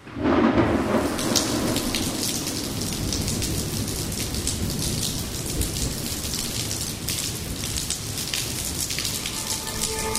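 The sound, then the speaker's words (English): A loud crash of thunder breaks at the start, then steady heavy rain pours down, dense, with low rumbling lingering beneath the hiss of the downpour; a terrible rainstorm heard over a phone. “There was another crash of thunder on the phone.”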